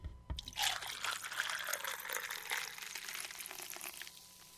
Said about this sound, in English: You're going to take 4 ounces of amaretto. Okay. And then what? Then you're going to take 2 ounces of regular old Dr. Pepper. Poured over ice? Over ice.